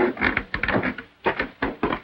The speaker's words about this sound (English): walks to the door and opens it.